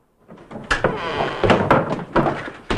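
A door upstairs is opened by Socket, answering it in his nightgown, with a string of sharp clicks and knocks from the latch and handle, followed by rustling and shuffling as it swings, fairly loud with no voices.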